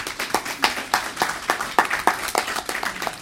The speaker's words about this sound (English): Thank you. Please give a clap.